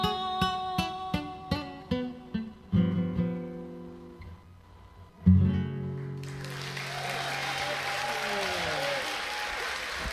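A plucked guitar plays a run of ringing notes and a final sustained chord, then a crowd breaks into steady, loud applause that carries on to the end.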